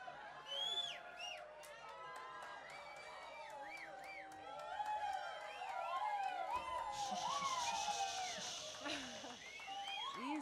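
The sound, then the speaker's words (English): A concert audience in Paonia howls like a pack of wolves as the band returns for an encore, many overlapping voices sliding up and down in wavering, siren-like wails. A loud hiss of cheering swells partway through. “Yes, you totally sound like wolves.”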